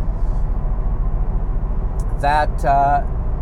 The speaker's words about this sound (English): Wow, this car is loud, eh? Ugh. Time to get rid of it. Get a new one.